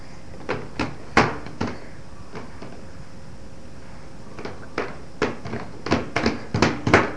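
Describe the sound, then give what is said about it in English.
Repeated banging on a shower door, a dozen or so sharp knocks in an irregular rhythm, sparse at first and then coming in quick clustered bursts, with no talking. “Can you bang on the shower door?”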